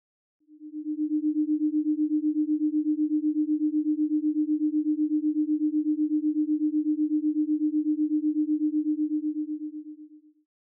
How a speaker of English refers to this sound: starting with the raw binaural frequencies, and then hearing how they feel when layered over music. Use stereo headphones. Let's begin. First up, alpha waves.